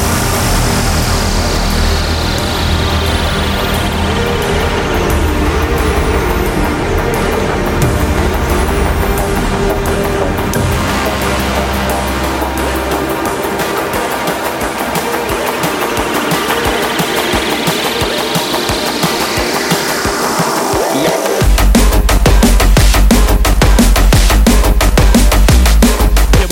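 A loud neurofunk drum and bass track with growling, engine-like bass and sweeping synth tones, building tension before crashing into a heavy, dense beat near the end. No voices.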